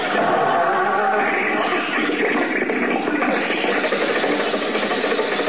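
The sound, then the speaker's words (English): The motor of Mr. Benny's car runs in a garage with a steady, loud, churning rumble that holds at an even level throughout, with no clear start-up and no voices over it. “The motor's going. Back the car out of the garage.”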